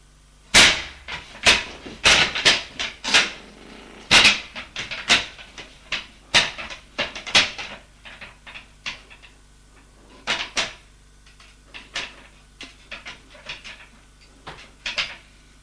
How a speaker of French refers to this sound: Il regarde autour de lui et dit, « Tiens, regarde, il y a une autre porte derrière ce casier. Allons, allons voir. » Il déplace le casier.